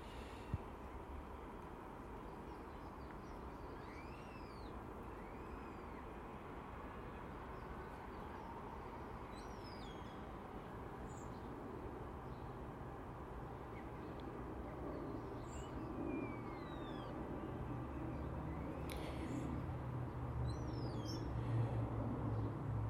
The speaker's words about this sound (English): Trains and planes, no boats.